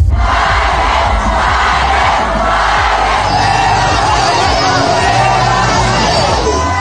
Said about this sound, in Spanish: Jorge Álvarez Máynez se enfrenta a críticas y abucheos en su visita a la UAM Xochimilco.